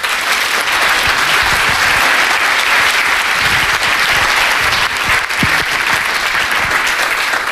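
An audience applauds steadily to welcome a speaker, a dense, loud wash of many hands clapping that holds at an even level for several seconds with no voices.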